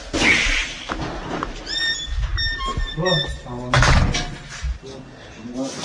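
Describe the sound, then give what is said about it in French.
The door of a small studio apartment is pulled shut, with a drawn-out creak of the hinges before a solid thump as it closes, while people talk quietly. “Est-ce que je laisse un peu ouvert? Non, ferme.”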